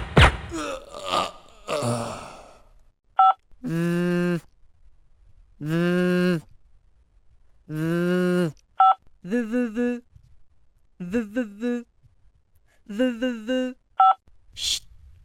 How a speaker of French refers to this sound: Et maintenant, des sonneries pour le mode silencieux.